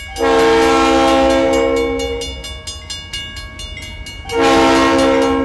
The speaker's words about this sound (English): On a recent afternoon, a bell sounds to alert drivers that the bridge is closing so a train can cross.